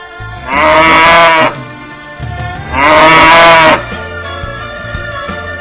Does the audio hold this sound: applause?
no